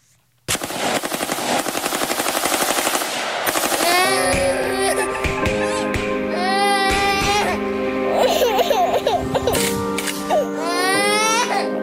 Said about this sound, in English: Okay, so as you hear gunshots ringing out and children crying, what you see written on the screen is Mayor Lenny Curry promised a safer city.